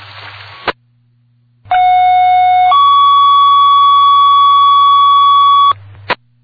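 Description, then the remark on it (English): Fire dispatch alert tones over a radio striking a second alarm for a reported working structure fire on box 442, 168 Main Street: a steady lower tone for about a second, then a longer higher tone for three seconds, loud and continuous, with a faint radio hum behind. “Attention all fire personnel, striking a second alarm on box 442, 168 Main Street.”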